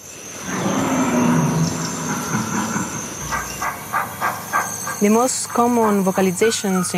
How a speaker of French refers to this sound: Les vocalisations les plus courantes chez les gorilles sont les grognements et les grondements. Ils en émettent plus de 10 ou 12 chaque heure. Ça ressemble à un son très rauque.